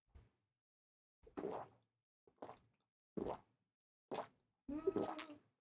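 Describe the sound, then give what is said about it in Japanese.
Wet gulping swallows of Heineken beer from glasses come in a quick irregular series of about five or six short plops, with a slightly fuller, ringing burst at the end like glasses touching in a toast. “じゃあ、 はい、 皆さん告げたということで、 はい、 ハイネケンビールで乾杯。 乾杯、やったー。”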